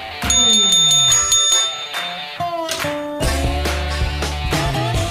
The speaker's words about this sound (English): That bell's sounding good. I think somebody tuned it up when I was gone. Somebody slapped some WD-40 on there. Sounds like it. Yeah, I mean, that is sharp.